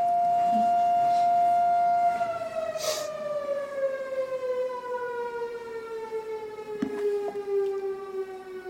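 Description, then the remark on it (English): A loud civil defense siren holds a steady wailing tone, then slowly winds down in pitch over several seconds, droning continuously with its harmonics ringing out, with no talking over it. “And we have, this might be one of the weaknesses, is having to stop the meeting during the siren.”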